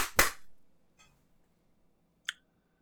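One sharp, loud hand clap, made to mark the end of a break, rings out and quickly dies away, followed by a faint tap and then a second, softer snap a couple of seconds later. No one speaks.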